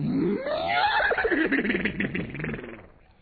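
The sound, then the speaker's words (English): A voice singing a farm-animal song imitates a horse's whinny: a loud cry that swoops upward, then breaks into a quavering, shaky warble for about three seconds before trailing off. “My old horsey went.”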